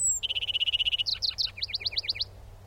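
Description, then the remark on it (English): A lark sparrow sings in summer in western Arkansas: a rapid buzzy trill of repeated notes, then a few sweet doubled phrases and a quick series of slurred chirps, clear over a low steady background hum. “In summer, in western Arkansas, it's probably a lark sparrow's.”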